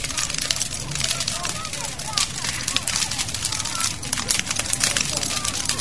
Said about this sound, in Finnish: Ja ei ole paljon yhtään vielä palannut tuo kokko, ei ole vajunut muutamassa minuutissa paljon miksikään. Mutta rätinä kuuluu tänne ylärinteeseen saakka tuolta kokosta.